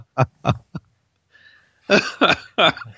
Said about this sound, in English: Uh-oh. We're going to start him with a coughing fit.